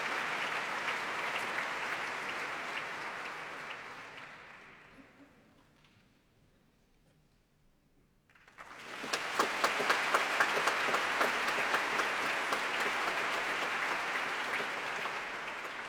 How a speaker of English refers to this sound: And here he is coming on stage to very warm applause, Nishat Khan, and tonight's conductor, David Atherton.